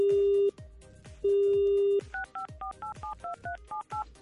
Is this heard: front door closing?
no